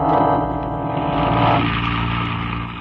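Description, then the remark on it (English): A car engine drones steadily as the car is driven down Clay Street, its low rumbling hum shifting slightly in pitch, with no voices. “He wheeled the car down Clay Street, and we followed.”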